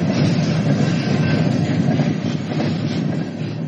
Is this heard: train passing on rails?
yes